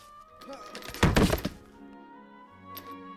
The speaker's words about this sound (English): Once that is removed, hit the chair against the floor until it is dismantled. If you have a computer chair, hit it against the floor.